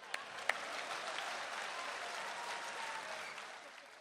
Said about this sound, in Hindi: ताली तो जोर से बजा दो।